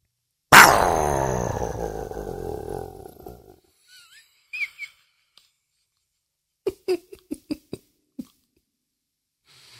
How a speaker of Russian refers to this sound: Когда мы засыпаем, они выходят из тени и подходят к нашей кровати и хрипло дышат нам в лицо.